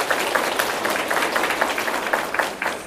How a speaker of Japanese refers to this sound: 嬉しいですね。 嬉しいですね。 こんな拍手ね。 いやなかなかないですね。